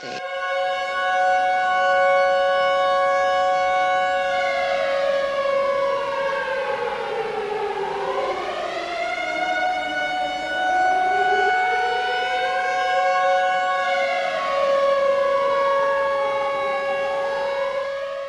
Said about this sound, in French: Se superpose au son des wagons celui des sirènes d'alarme lancinantes et des sifflets.